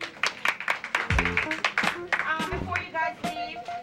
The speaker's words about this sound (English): Round of applause for the ladies.